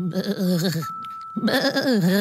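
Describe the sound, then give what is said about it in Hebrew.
Two loud sheep bleats with a shaky, wavering tone, separated by a brief pause; the second bleat is slightly longer and trails off. A little sheep asks to come in. “אפשר להיכנס? שאלה הכבשה הקטנה.”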